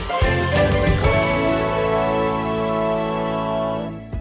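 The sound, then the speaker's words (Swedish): A telephone rings with a bright, melodic chiming tone, loud, its notes sustaining and ringing out for about four seconds with no one talking. “Det ringer!”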